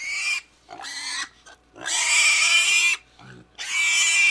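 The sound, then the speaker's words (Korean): Pigs grunt and snort loudly in four rough, squealing bursts separated by short pauses as they enter a barn, with no voices present. “모든 동물들의 시선을 받으며 돼지머리들은 헛간으로 들어왔다.”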